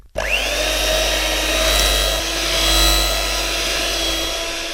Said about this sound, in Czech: No a pak to vezmeme pro jistotu do robota a hnětacími háky pěkně. Aby vzniklo takový jemný těsto, jo.